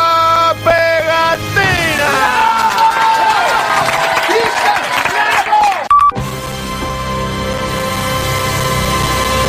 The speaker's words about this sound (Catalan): I per això us demano un fort aplaudiment per... Esta pandilla de juventud.